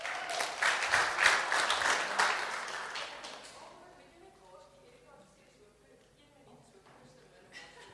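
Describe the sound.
A crowd at a service applauds a volunteer loudly in a dense burst of many hands clapping for several seconds, then the clapping fades away as a voice begins speaking.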